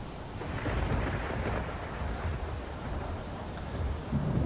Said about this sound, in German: Der Sturm, der hört nicht auf. Der ist weiter am Toben. Das Wasser ist am Spritze.